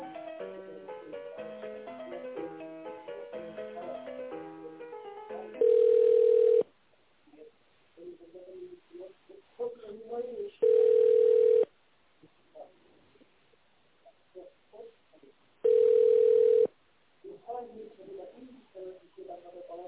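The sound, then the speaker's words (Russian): A brief snatch of music gives way to a telephone ringback tone as a call is being put through to a company's security service: three loud, steady, mid-pitched beeps, each about a second long and roughly five seconds apart, with faint murmuring voices between them. “Они сегодня же короткий день, попробовать соединить, гарантирую.”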